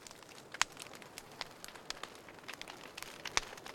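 crackling fireplace fire

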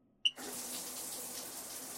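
shower water rinsing

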